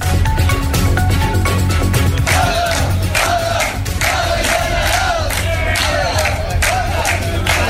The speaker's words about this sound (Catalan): Aquest és el crit que es va poder sentir ahir en diferents punts de la comarca amb motiu de l'aturada general.